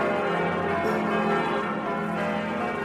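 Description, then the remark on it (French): Big bells of Notre-Dame cathedral in Paris peal together in a dense, overlapping wash of resonant tones, ringing loudly and continuously without pause, with no voices present. “la libération de Paris et Notre-Dame y était évidemment associée, mais pas seulement par son lieu, mais aussi par ses cloches qui avaient retenti pour faire savoir à tous les Français que la France était de retour dans les grandes manœuvres du monde.”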